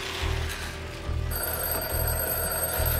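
A telephone bell rings in steady repeated bursts, fairly loud, with a low rhythmic pulse beneath each ring and no voices.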